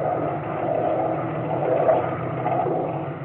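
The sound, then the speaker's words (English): A small motorboat's engine drones steadily as the boat from an American salmon vessel moves off across the water toward a Japanese vessel, a continuous low rumble with a slight swell in the middle and no voices. “The boat from the American salmon vessel pulled away and headed for the Japanese vessel.”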